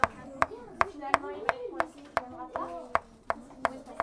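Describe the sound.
About a dozen sharp, crisp taps of a pen on a table, struck at a steady, fairly quick rhythm, with voices murmuring softly beneath them throughout.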